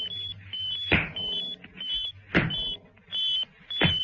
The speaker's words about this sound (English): Now, all we have to do is set the Pabulum robot switch to the same frequency. A counter bleep could be just heard coming from the robot.